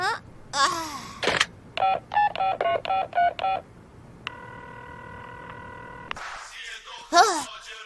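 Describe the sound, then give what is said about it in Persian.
A quick run of seven evenly spaced touch-tone beeps from a home landline being dialed, followed by a steady ringback tone lasting a couple of seconds as the phone rings inside the house, with brief vocal sounds before and after. “تلفنش داره داخل خونه زنگ میخوره.”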